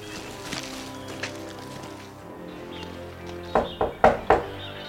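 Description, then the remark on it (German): Four firm knocks on the massive front door of a gloomy grey-white house in a dense palm forest land near the end, evenly spaced, after a stretch of quiet outdoor ambience with faint background rustle. “Auf das Klopfen Taylors an der massiven Haustür hin tat sich zunächst nichts.”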